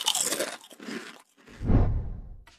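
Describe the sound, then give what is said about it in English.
Crunching of potato chips: a few crisp, crackly bites followed by a louder, deeper chewing crunch, with no talking. “Believe it or not, researchers found that if you take away the sounds, people grew tired of eating chips faster.”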